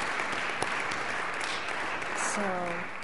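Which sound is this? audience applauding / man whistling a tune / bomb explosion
audience applauding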